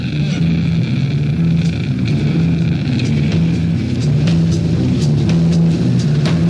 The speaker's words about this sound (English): Traffic is moving underground and then it's coming up again. As if they're going under a tunnel of sort.